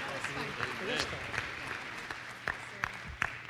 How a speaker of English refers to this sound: Let's give a hand to our panelists. Thank you so much.